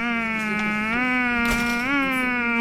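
A loud, close, continuous mosquito-like buzz drones for nearly three seconds with slight pitch wobbles, apparently a voice imitating the insect's whine rather than a real mosquito.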